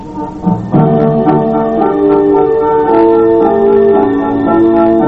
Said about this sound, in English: Throughout German history, church bells have rung out, not only heralding freedom, but at times, warning of war.